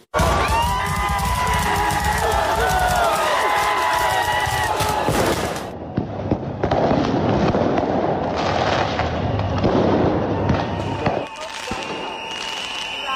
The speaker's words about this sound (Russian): Пулеметы из фейерверков против слезоточивого газа и водометов. В Грузии шестой день подряд не утихают протесты.